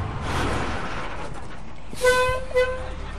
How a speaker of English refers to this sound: A chartered bus filled with campers just pulled into the parking lot at Howe Caverns in upstate New York.